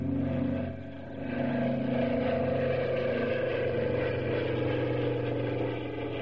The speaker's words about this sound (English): Hey, take a look. Huh? Take a listen, I mean. Yeah. I mean, take a look and a listen. I mean, there's the signal plane.